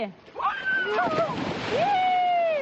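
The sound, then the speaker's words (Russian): A person in a special arctic suit splashes heavily into icy winter water in Perm, the loud watery rush lasting a couple of seconds while high, excited voices call out over it. “Один отважный шаг, и человек кажется в невесомости. Именно такие ощущения испытывают люди, оказавшись в этой ледяной воде.”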